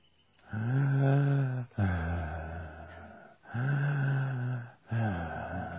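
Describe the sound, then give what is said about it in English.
Slow, heavy breathing of a man floating in water with no light or other sound, four long drawn breaths in a steady rhythm with brief pauses between, loud and raspy, no talking. “His breathing.”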